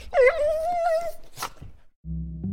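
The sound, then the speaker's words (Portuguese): Patti Smith's dog whimpers in a long, wavering, high-pitched whine, then lets out a short, clear yip; a low steady tone comes in at the end. “E se me perguntassem qual era a minha profissão, só tinha de dizer: sou tradutora do cão da Patti Smith.”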